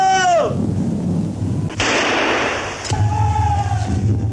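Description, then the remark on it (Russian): Machine-gun bursts rake the water of the Ural River in a 1919 scene of Chapaev's crossing, over a heavy low rumble, opening with a falling whistle, then a loud, harsh crackling blast in the middle and a thin whining tone near the end. No talking. “Воду вокруг полосуют очереди.”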